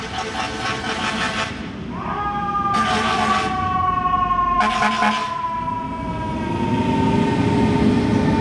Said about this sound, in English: here is a thing that I call Freaky Fire Truck. I think you can probably figure out why.